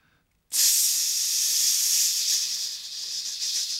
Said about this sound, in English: It started gradually until the whole chamber echoed to the sinister hissing noise. Then they saw the snakes. Every exit from that dreaded place was blocked by them. Adders writhing, hissing, baring fangs as they slithered forward.